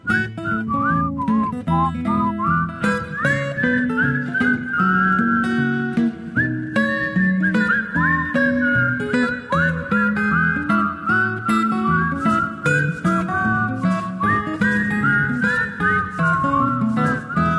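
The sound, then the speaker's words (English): Someone whistles a continuous, wavering tune, loud, the melody gliding between notes for the whole stretch over a dense, humming background, with no talking. “Having as much fun at home as we're having here whistling.”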